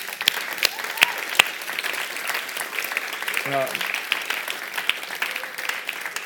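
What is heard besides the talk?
audience applause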